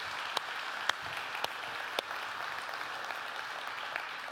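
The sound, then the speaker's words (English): An audience applauds steadily, a dense wash of clapping at a fairly even level, with a few sharper individual claps standing out every half second or so. No voices come through. “Come on, y'all give them another round of applause.”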